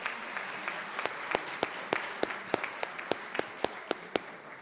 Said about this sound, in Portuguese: Cerimonial, gostaria de agradecer a presença do ex-vereador de São Bernardo do Campo, Matias Fiuza. Uma salva de palmas.